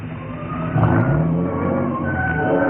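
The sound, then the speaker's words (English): A car engine rumbles, briefly swelling as the car slows with its lights off and pulls into the side of the road at the edge of a cliff, then settles into a steady low idle as it comes to a standstill. No one speaks. “It was as the car came to a standstill that I suddenly remembered.”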